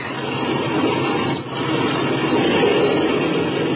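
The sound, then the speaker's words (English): A biplane engine is revved before takeoff, roaring steadily in a dense, rough drone that dips for a split second midway and then surges back to full loudness. No voices. “Okay, clean out that engine while I climb into the front cockpit.”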